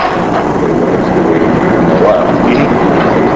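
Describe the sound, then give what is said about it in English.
A small rail car used for mine tours rolls along steadily inside a mine, its wheels producing a continuous rumbling clatter that holds at an even loudness throughout, with no voices. “So this is the rest of the little train car that they run the mine tours on.”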